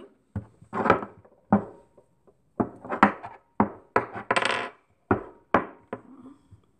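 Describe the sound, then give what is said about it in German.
Chess pieces being set up on a board: a dozen or so sharp, hard clacks in an uneven rhythm, some in quick pairs, with brief rattles between them and no voices. “Tja, Schach.”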